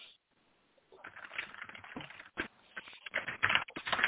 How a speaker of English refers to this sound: You know, unless, who's rustling papers? You're the background.